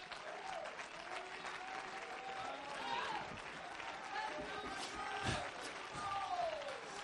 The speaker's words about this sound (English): If you love him tonight, clap your hands and lift up your voice.